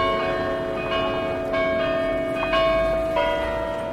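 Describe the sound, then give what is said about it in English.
Large bells in the 73-metre red brick bell tower of the University Library in Leuven chime loudly, each new strike landing every second or so over a long, shimmering hum of overlapping tones that never fully fades. No voices are heard. “Just protect your ears around chiming times.”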